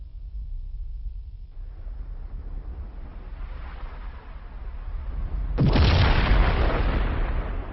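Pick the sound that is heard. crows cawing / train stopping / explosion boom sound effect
explosion boom sound effect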